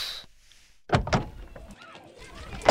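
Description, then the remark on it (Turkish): A door thumps and rattles, a couple of heavy knocks followed by scraping and fumbling, then another loud bang at the end as someone tries to force it open. “Baba, kapıyı açamıyorum.”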